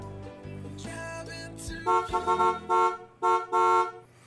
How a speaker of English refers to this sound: I finally got good at waiting till the honking is done. I used to start talking, and then the honking would go, oh, shoot, I'm just ahead of myself.